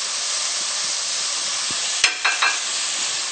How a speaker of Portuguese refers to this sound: Sempre primeiro o pimentão. O pimentão tem que refogar bastante para que ele não fica indigesto, como eu falei quando eu estava picando os ingredientes. Então, deixa ele bastante tempo aqui, depois põe a cebola.